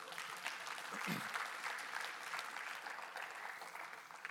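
An audience claps steadily for several seconds, a dense, even patter of many hands at moderate volume with no voices rising above it.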